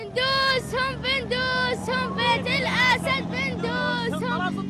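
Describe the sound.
A young boy waving a flag atop his parents' car in Damascus, Syria, sings a rhythmic chant-like song cursing the Assad family in short repeated phrases, loud, over a constant low rumble of engines and crowd noise outdoors.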